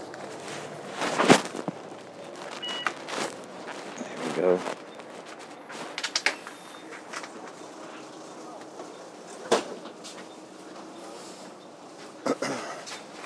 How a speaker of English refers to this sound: Yeah, it seems to be quite, hang on a minute, to get off this bus.